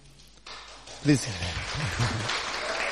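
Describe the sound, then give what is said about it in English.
Steady applause from a church audience during a service, welcoming a new friend as she comes forward, rises after a short quiet start and continues as a dense wash of hand claps, with voices speaking over it. “Yes, give a big hand clap as she comes.”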